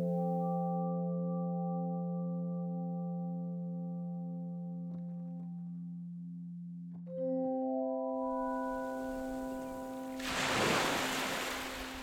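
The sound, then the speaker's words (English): Steady droning musical tones hold throughout, and in the second half a wash of ocean surf rises beneath them, swelling into one loud breaking wave before easing back. No one speaks. “She wrapped her skin around her as she walked slowly into the salt water, awaiting the familiar metamorphosis.”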